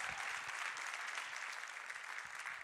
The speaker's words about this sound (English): So would you join me in welcoming her to the platform now? Can we applaud her as she comes?